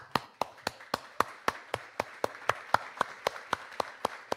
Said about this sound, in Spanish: Permítame, voy a aplaudir.